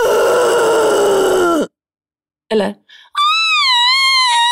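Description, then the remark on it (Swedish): A voice imitates growling and a deep, abyssal roar: a long, loud, strained cry that slowly falls in pitch. After a pause comes a brief spoken word, then a sustained high-pitched wailing vocal sound. “Så att jag tar och vrölar och bara morrar och sen gör jag ett avgrundsvrål.”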